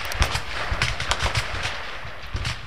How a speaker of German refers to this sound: Sie und ihr Mann wohnen praktisch neben dem Schiesszentrum. Draussen in ihrem Garten hört man die Schüsse deutlich.